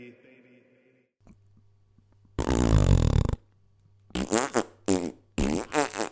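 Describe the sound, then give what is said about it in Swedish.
A loud, close, buzzy fart sound drags on for about a second, then a pause, followed by a quick series of shorter, sputtering fart noises. No one speaks. “Och med de pruttskämten avslutar vi veckans avsnitt av Specialisterna podcast”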